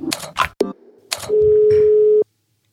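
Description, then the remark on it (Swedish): Telephone dialing tones while calling a football referee, Jonas Eriksson: a brief beep after some clicking and rustling, then a single steady, mid-pitched tone that holds loud for about a second before cutting off. No one speaks. “Nu tar vi lite kaffe och ringer en fotbollsdomare.”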